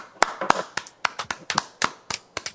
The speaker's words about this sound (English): Nice tepid applause